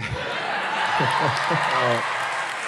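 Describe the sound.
Audience applause forms a steady, dense wash of clapping that runs through the whole clip, with a voice briefly speaking over it in the middle.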